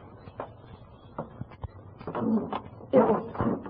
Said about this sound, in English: Oh, it's that creaky step. Oh, I'll have to get these steps squeaked one of these days.